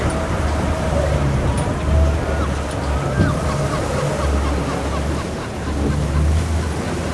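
Extremely rough seawater churns and crashes in a dense, continuous roar with a heavy low rumble, steady and loud throughout with slight surges, as if heard from a boat on the water.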